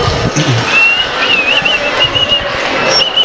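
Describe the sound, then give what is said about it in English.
A loud live crowd in Rosemont cheers and claps continuously for a boy who will ring the bell for the main event, with a long shrill whistle cutting through the noise and a second brief whistle near the end. “Let's hear it for him.”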